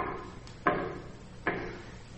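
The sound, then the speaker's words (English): Two solid knocks on a wooden door, spaced almost a second apart, each with a short resonant ring that fades quickly. No one speaks. “And all of a sudden, we start to hear the knock.”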